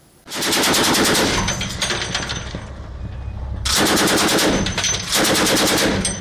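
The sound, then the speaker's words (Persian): Loud, rapid bursts of heavy automatic gunfire from Iranian, Chinese and Russian warships firing at sea targets during the Maritime Security Belt 2022 joint naval exercise in the Indian Ocean, in sustained volleys with a brief lull between them and a low rumble underneath. No one speaks. “تیراندازی ناوهای ایران، چین و روسیه به سمت اهداف دریایی، بخشی از رزمایش مرکب کمربند امنیت دریایی 2022 در اقیانوس هند.”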